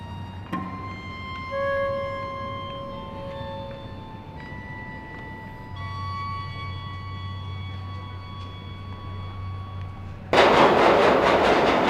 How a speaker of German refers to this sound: Eine U-Bahn-Fahrt auf eigene Faust mag eine gewisse Herausforderung sein.